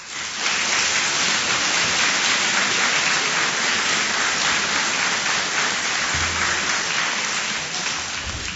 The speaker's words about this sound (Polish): Wszystkich gorąco witamy oklaskami.